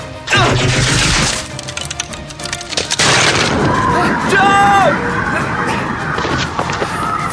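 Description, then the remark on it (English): Loud bursts of gunfire from a drone gun hit a window, followed by a clattering, smashing crash and a stretch of noisy debris with brief ringing tones. “Because if I aim this drone at the window and squeeze the gun bit”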